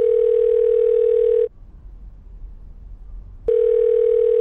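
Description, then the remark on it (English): A steady, mid-pitched telephone dial tone hums for about a second and a half as someone makes a phone call, drops out for a two-second stretch of faint hiss, then returns unchanged. No one speaks. “I've just got to make one more phone call.”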